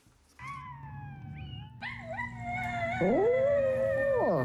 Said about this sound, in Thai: เจ้าพาซี่สุนัขตัวน้อยหอนคลอไปกับเสียงของตัวมันเองที่ดังอยู่บนสมาร์ทโฟน